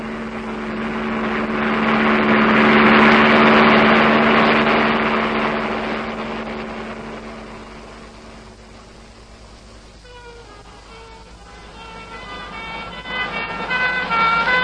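ambulance sirens passing

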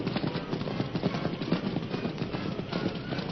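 galloping horse hoofbeats

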